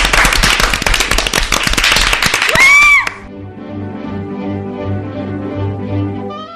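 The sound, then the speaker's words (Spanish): Loud, dense applause bursts out for about three seconds at the start of a true-or-false quiz segment with Shakira and Carlos Sainz, ending with a brief rising whistle before a steady musical tune takes over. “¡Ey, los aplausos!”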